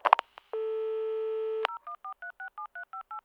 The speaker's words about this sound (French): Coco regarde le téléphone. Il décroche. Il appuie sur les touches.